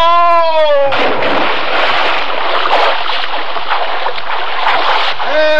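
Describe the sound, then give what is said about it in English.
A sliding, tonal cry gives way to a loud, churning splash of water as a man falls overboard from a boat with a slippery deck, roaring steadily for about four seconds, then another rising cry breaks through at the end. “Help! Man overboard!”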